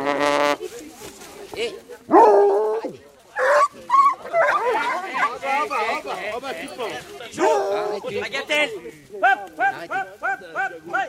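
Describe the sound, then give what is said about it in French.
A pack of hunting hounds barking, yelping and whining over one another in a continuous chorus as they sniff and lick a roe deer, with a rapid run of repeated high yelps near the end. “Il y a les chiens qui sont en train de le renifler, le lécher.”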